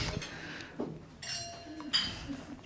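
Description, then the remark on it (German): Glasses clink together a couple of times in a toast to the late Kurt Osborn, each touch leaving a bright, ringing chime that lingers briefly, with low voices murmuring in the background. “Gott hab ihn selig, ich möchte hiermit anstoßen auf den guten alten Kurt Osborn.”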